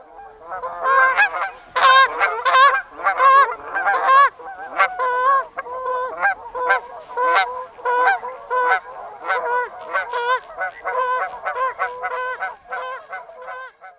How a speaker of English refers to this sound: And sometimes it's impossible to miss, as a huge flock of Canada geese wing their V-shaped way south, honking loudly.